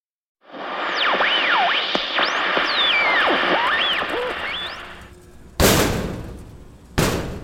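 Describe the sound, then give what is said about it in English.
Two loud bangs on a closet door, about a second and a half apart, each with a short ringing decay, following a long hissing stretch laced with warbling, swooping whistles. “stop banging on the closet door for a second.”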